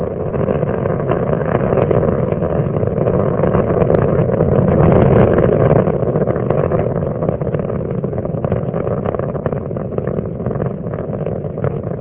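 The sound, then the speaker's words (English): The three liquid-fuel main engines of space shuttle Endeavour roar during launch, 37 seconds into flight, throttling back in three steps to 72% of rated performance: a loud, continuous, rumbling blast that holds steady for the whole stretch, swelling slightly midway, with no voices over it. “37 seconds into the flight, three liquid fuel main engines now throttling back in a three-step fashion to 72% of rated performance.”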